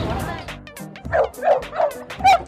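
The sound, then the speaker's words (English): A street dog barks four times in quick succession, loud, each bark sharp and short, after a brief stretch of low murmuring voices. “Mean street dog.”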